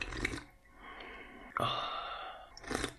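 Two long, airy slurps of hot coffee, each a drawn-out hiss of sucked-in air with a gurgle, separated by a sharp click, ending with a short breathy burst.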